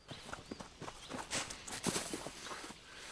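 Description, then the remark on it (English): Horses' hooves clip-clop in a quick, steady rhythm of overlapping hoofbeats, fairly quiet and moving along without any voices, as outlaws head off taking the horses with them. “the outlaws head off, taking the horses with them.”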